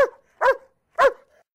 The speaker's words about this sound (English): It's a dog.